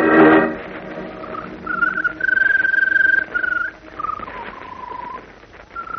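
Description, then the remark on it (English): A bird, the Scarlet Bird in a Superman story, sings in long, drawn-out whistled notes, some held steady and others gliding, at a clear mid-high pitch, after a short burst of noise at the start; no one speaks. “You know, it's a strange thing, but she seems to get stronger whenever that bird sings.”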